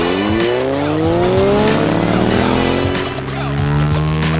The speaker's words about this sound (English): I can't wait to drive this motorcycle that I definitely know how to drive.